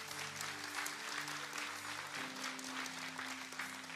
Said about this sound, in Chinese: 所以谢谢你们一起来点着祭坛的火，给自己一个掌声。